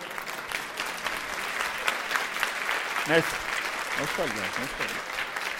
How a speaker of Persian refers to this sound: خیلی خب خودتون تشویق کنین لطفا.